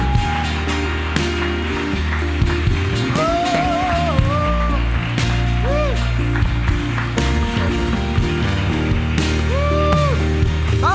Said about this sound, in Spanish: Ese aplauso tiene que ser mucho más grande.